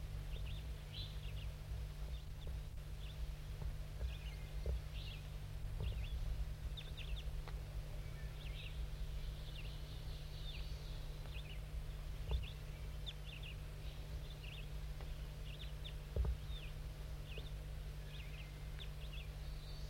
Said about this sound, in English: These are the calls of bird 5-3, very softly calling to the wild bird up in the trees above.